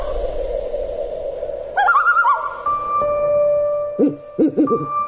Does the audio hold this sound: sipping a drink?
no